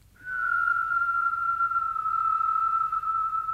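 A person whistles one long, steady note that barely wavers in pitch, held clearly and fairly loud for about three seconds with no talking around it.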